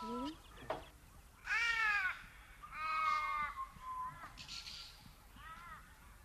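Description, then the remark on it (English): Crows caw: two loud, harsh drawn-out calls, then a few shorter, softer caws trailing off, with faint bird chatter at the start. “They're ominous, the crows. Are they here for the sheep?”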